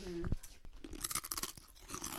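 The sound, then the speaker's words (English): Crunching of crisp taco-flavored Doritos chips being chewed, with a quick series of sharp, brittle crackles and munching sounds over about two seconds, no talking. “I always be buying these like special flavors of Doritos because I always like them.”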